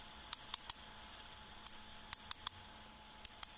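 A European robin gives its sharp ticking alarm call, a series of dry, high clicks in short bursts of two or three, distinct against a quiet background.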